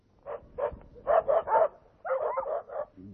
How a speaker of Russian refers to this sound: собаки! Ух ты! Ты дюжины две, не меньше. А чего это они сбежались? Окружили дворняжку. Не видишь? Какую? Вон ту черную.